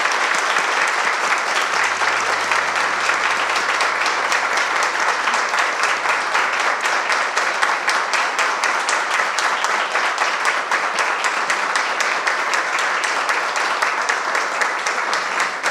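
Sustained applause from an audience, a dense crackle of many hands clapping at steady loudness for the whole stretch, with no voices standing out.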